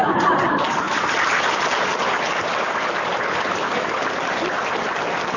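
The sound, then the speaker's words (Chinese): Steady audience applause, a dense wash of many hands clapping at a constant, fairly loud level for several seconds, with no voices standing out. “刚刚三万人的掌声，现在三百人的不到。”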